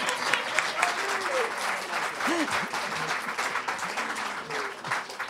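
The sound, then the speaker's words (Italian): An audience applauds steadily for several seconds to thank EDAC Studio of Fino Mornasco, a dense wash of clapping with a few voices murmuring and calling out underneath. “Un applauso.”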